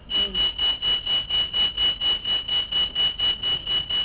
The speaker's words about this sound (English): Is it a fire alarm?